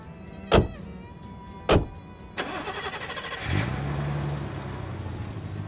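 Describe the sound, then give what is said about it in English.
Two solid thuds like car doors closing, then a big BMW's engine cranks and catches, rising into a steady running hum as the car gets under way from a station car park. “It was a big BMW. She was a very fast driver.”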